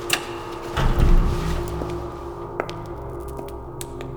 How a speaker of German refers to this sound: Halten Sie bitte die Tür auf